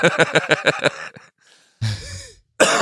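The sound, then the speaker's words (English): A few rapid breathy vocal bursts give way to a harsh, rough cough, followed by the start of another, with no talking. “That's my cough, not yours.”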